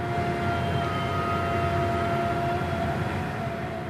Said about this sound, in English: It started in this exact part of Texas. It's called the Barnett Shale. To start out, I want to play you a piece of sound. And imagine you live right next door to this drill rig.